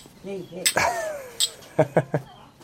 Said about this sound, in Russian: Давай чокнемся с тобой.